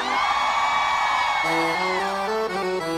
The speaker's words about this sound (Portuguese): Quem é forrozeiro, dá um gritão pra mim aí.